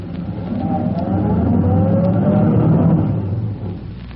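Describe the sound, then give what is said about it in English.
Chief Cody's car emerges from the shadows near an alley mouth, its engine droning steadily, swelling louder as it draws near, then easing off as the vehicle slows and pulls up. No voices are heard. “He waves a signal with his electric torch and waits for his car to emerge from the shadows.”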